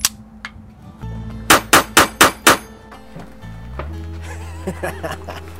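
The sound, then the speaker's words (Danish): Five loud, sharp pistol shots fire off in quick, evenly spaced succession at a shooting range, with a low steady hum and a few faint clicks around them. “Altså, kan du vise mig det der? Vil jeg skyde? Ja.”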